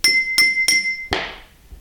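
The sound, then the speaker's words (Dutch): A coffee spoon taps a drinking glass three times at an even pace, each strike ringing clearly, followed by a fourth harsher, rattlier hit that fades out. Fairly loud, no talking. “Je pakt nu een koffielepeltje en je hebt een glas daar staan.”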